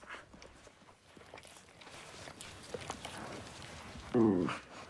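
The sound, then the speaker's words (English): A dog pads over with soft, rapid pattering steps on a quiet floor, followed by a short, louder tonal whine-like burst near the end, as it comes over to a bed in the morning and licks a sleeping man's face. “Jack's asleep in bed when the dog comes over and licks his face.”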